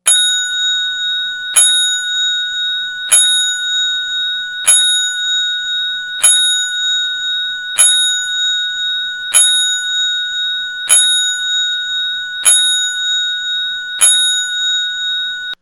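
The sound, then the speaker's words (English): A boxing ring bell is struck ten times as a ten-bell salute, at a slow, steady pace, each loud, clear clang ringing on until the next strike. No voices, just the solemn tolling. “I know how much you, and I say it sarcastically, like the 10-bell salute.”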